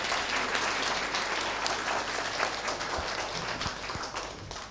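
Steady applause from a crowd fills the whole stretch, dense overlapping claps at an even, moderately loud level with no talking over it.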